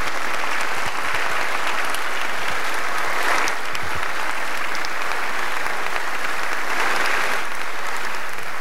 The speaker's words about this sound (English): That was inspiring. I'm pretty sure that was the first time in history people applauded a Zoom call. It's also impressive that Zelensky was able to deliver that message in his non-native tongue.